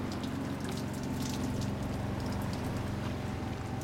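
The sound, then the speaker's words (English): Heavy rain coming from the east pours down steadily on a boat at sea, heard from inside its cabin: a continuous dense hiss with scattered patters and a low rumbling undertone, with no voices. “We're getting plenty of rain today, pouring rain.”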